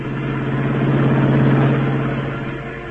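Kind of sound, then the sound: vehicle, car engine speeding away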